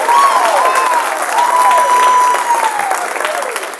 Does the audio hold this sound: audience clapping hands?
yes